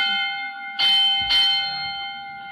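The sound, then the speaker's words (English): A bright electric school bell rings continuously with a steady metallic tone, signalling the end of class, swelling louder in two bursts partway through before sustaining to the end, with no voices present. “that bell means... Oh, pardon me. That means the same as a dozen regular school classes over.”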